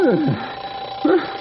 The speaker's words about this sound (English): Why didn't you tell me it was just this old burglar alarm, Gray Wolf? Sounded to me like the 400 was going by.